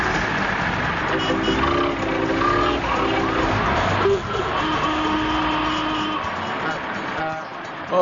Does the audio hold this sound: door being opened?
no